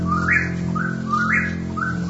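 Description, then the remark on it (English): A whippoorwill calls over and over in a night recording, its rising whistled notes repeating in a quick, steady rhythm above a low, sustained drone of background sound. “… has a dreamlike quality, with woodwinds and strings answering the recorded night sounds of the whippoorwill and the great horned owl.”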